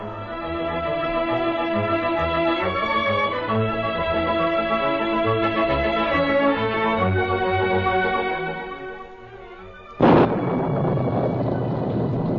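Steady orchestral music plays for about ten seconds, then breaks off into a sudden loud crash of thunder echoing from the hills, followed by a dense, continuous roar of torrential rain from a heavy spring storm in the Yukon, well past midnight.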